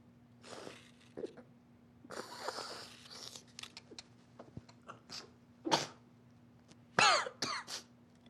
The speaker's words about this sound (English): He glances over to his right while he rolls up a small piece of paper. Leaning down, he snorts a thick line of cocaine.